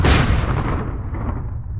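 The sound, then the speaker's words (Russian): A sharp gunshot fused with a heavy explosion in one loud blast, its bright crack fading quickly into a long, deep rumble that keeps rolling to the end. “Выстрел и слившийся с ним взрыв раздались, когда он уже падал на землю.”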